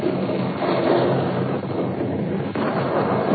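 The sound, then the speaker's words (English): Rolling thunder at midnight during the monsoon in India, outside a hall where Pandit Jawaharlal Nehru sat, rumbles on without a break: a dense, loud roar that swells and settles slightly but never fades, with no voices over it. “Outside the hall, a rippling wave of thunder clattered across the midnight sky.”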